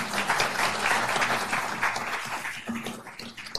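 A crowd at an evening community meeting in Pinellas applauds the mayors and the moderator steadily, dense overlapping claps forming a bright, sustained wash of noise that holds strong throughout and eases only slightly near the end.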